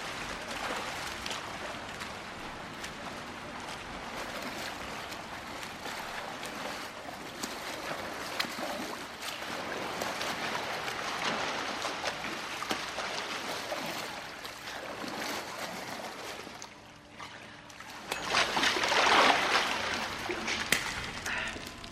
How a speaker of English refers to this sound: James watches William glide through the water.